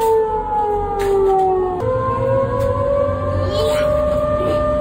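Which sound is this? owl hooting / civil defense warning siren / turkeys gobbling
civil defense warning siren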